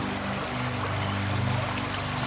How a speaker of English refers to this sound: Just listen to the sound of the water moving the river along. Let it soothe you.